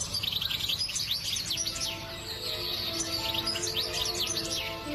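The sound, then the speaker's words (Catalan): A songbird sings a rapid, warbling finch-like song of bright twittering notes and trills, continuous, over a steady low background hum with no talking. “Precisament pel seu exuberant i melodiós cant, han estat perseguits i cobdiciats pels humans.”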